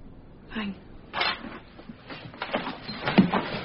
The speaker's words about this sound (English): that's my desk. Open the drawer, I will.